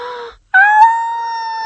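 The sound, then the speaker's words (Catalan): A voice imitates a wolf yelping in pain after falling down a chimney into a pot of boiling water and scalding its backside: a short whiny cry, a brief pause, then a loud, sustained howl that holds a steady pitch. “El llop va acabar de pujar per la paret, es va ficar pel forat de la xemeneia i quan va caure”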